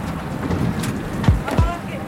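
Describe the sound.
A boat coming in to moor at the port of Mamoudzou, with steady wind and low engine rumble, then two dull thumps near the end as it nudges against the dock while the stern is being moored. Indistinct voices.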